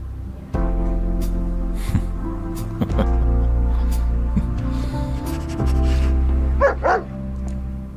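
dog barking

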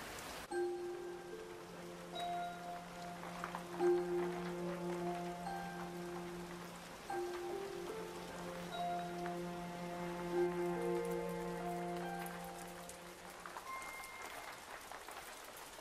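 rain falling

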